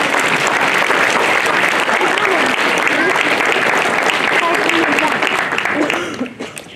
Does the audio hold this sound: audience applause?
yes